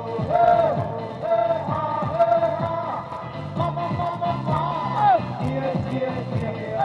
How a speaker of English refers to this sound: Outside the terminal, a festive atmosphere today as thousands of demonstrators listen to music and anti-government speeches, clapping politely in between mouthfuls of free food and drink provided by organizers.